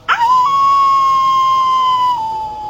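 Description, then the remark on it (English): A single loud, drawn-out werewolf howl holds one steady pitch for nearly three seconds, dipping slightly lower near the end, with no talking around it. “Werewolves like to howl.”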